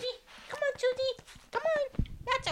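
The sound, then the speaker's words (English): A small, energetic dog yaps in a few high-pitched, drawn-out bursts that sound almost whiny, with short pauses between them and a thump near the end. “she loves her little dog, Susie, who has enough energy for the both of them”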